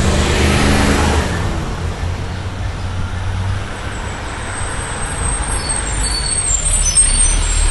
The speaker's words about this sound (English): There's a school bus right there.